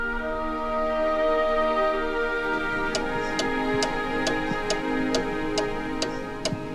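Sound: wall clock ticking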